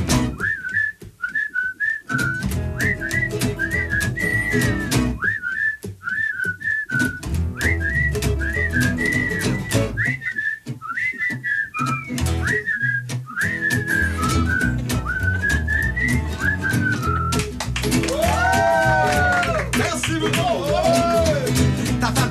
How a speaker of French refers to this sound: Bon solo. Attention, solo de siffleux.